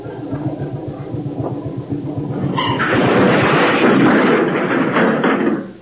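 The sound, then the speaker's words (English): A steamroller, started up from its cabin while in reverse, chugs into life with a steady, rhythmic low thumping, then a loud, sustained crash of crunching, grinding metal as it hits a Rolls Royce takes over for about three seconds before cutting off. “Now, there's the steamroller. The driver's just gone to lunch. Jump up in the cabin and start it up.”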